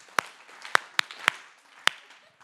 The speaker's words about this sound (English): let's give three claps